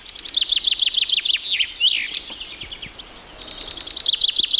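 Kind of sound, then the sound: bird, common chaffinch song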